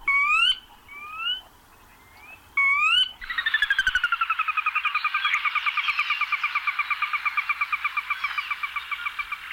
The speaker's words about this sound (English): I want to give a listen to, this one was recommended to me, this call, a Sora Rail. Here's what it sounds like.